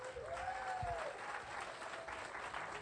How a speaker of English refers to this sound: Why don't you just give the worship team one more hand clap?